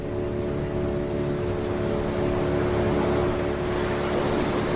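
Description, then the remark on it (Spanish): An Armed Forces motorboat engine drones steadily at sea off La Palma, carrying farmers to their banana plantations in the island's southwest: a constant low hum with tonal harmonics and a wash of water and wind noise over it, holding the same loudness throughout with no voices. “Por mar, sí, porque esta misma mañana han salido las primeras lanchas que las Fuerzas Armadas han puesto a disposición de los agricultores para que, como te digo, puedan llegar hasta esas plantaciones del suroeste de La Palma”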